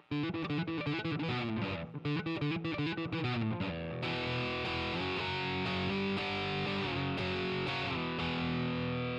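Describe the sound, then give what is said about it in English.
Buzzy, sizzling distorted guitar tone from a Tube Screamer running into a Marshall emulation and then through a low-pass filter, leaving only the top frequencies in a band; choppy and stuttering at first, then swelling into a dense sustained wall of fizzy high-end distortion, loud, with no talking. “the Tube Screamer running into a Marshall emulation and then running through a low-pass filter, as I described, and that gives me a fairly buzzy kind of high-end sound that rests on top of that and actually gives the sizzle to the distortion.”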